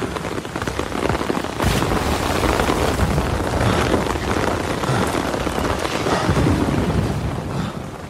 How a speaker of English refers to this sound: And that, of course, means that we are in the storm.